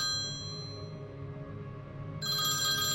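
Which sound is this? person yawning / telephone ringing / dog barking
telephone ringing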